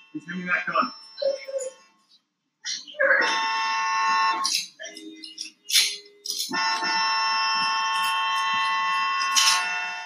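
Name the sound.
car horn honking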